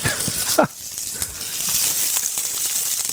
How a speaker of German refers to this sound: Jetzt ist heiß genug. Und dann die Garnelen. Sieht ein bisschen aus wie Südfrankreich in der Pfanne.